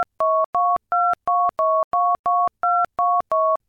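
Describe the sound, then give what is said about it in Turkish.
A quick, even series of about eleven telephone keypad beeps, each a short two-tone chirp, punched in one after another as an 11-digit account number is entered into a Türkiye İş Bankası interactive telephone service, loud with no voices. “Lütfen 11 haneli hesap numaranızı tuşlayınız.”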